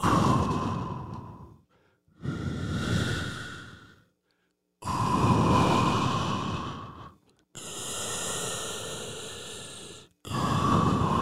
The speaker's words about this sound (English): Sounds like the ocean needs a sleep apnea machine, if I'm being honest. But you know what I'm talking about. The never-ending tide, the energy, the flow of the ocean.